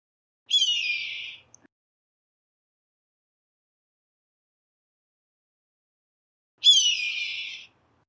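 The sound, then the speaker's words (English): Two hoarse, high-pitched red-tailed hawk screams, each a drawn-out downward 'kee-eeer' lasting about a second, separated by a long stretch of silence. “That was a red-tailed hawk.”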